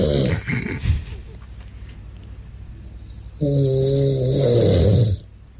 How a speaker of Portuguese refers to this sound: Sim, já conhece o som que eu faço ao ressonar.